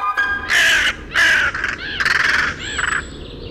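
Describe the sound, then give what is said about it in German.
A hooded crow caws loudly, giving four or five harsh, raspy calls in quick succession with short gaps between them. “Also, ich gebe zu, Nebelkrähen sind ja nun nicht gerade beliebt. Grau, schwarz, meliert sind die mit die größten Singvögel, die wir haben.”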